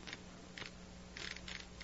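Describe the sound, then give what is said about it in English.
A combination lock dial turning on a bank vault as the combination is dialed: a series of crisp mechanical clicks and ratcheting bursts, uneven in spacing, over a low steady hum with no voices. “I've never tried the combination before, but... Suppose you just read it off to me from the paper, huh?”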